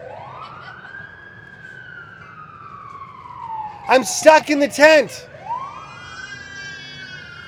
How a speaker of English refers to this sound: How do I speak over the sirens?